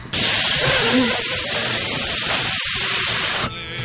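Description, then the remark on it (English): Gas rushes out of a balloon in a loud, steady hiss lasting about three seconds, with a faint squeaky waver near the start, then cuts off abruptly. “All right, pass it over here. It's a good balloon.”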